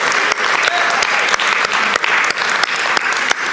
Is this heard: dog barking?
no